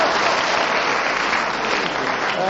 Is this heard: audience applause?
yes